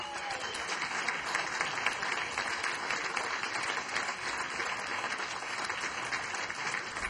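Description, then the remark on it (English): Steady applause from a large audience welcoming a keyboardist to the stage, dense clapping sustained at an even level for several seconds with no voices standing out. “And now, will you please give a warm round of applause and welcome to the stage, on keys, ….”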